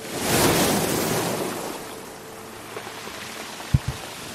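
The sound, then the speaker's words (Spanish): Calm Atlantic waves wash onto the coast of Galicia, Spain, in a broad hiss that swells over the first second and a half, then eases into a softer, steady wash with a few faint low knocks near the end. “Así suena cuando está tranquilo.”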